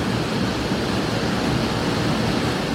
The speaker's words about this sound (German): Wow, wir haben hier gerade, hört ihr das eigentlich? Wir haben hier eine hammerkrasse Regenschauer gerade, aber sowas von.